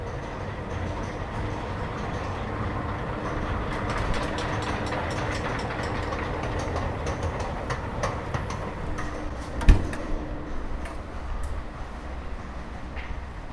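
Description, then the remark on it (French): A steady mechanical rumble of a tall escalator rising from a deep metro station at Porte des Lilas, with faint regular clicking running throughout and one sharper knock near the end, with no one speaking. “Ouah, ils sont grands les escalators. On a dû s'enfoncer très profondément avec le métro.”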